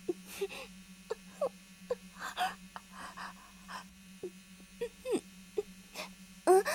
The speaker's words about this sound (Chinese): 你说好像有嗡嗡声。蚊子吧，夏天最容易出蚊子了。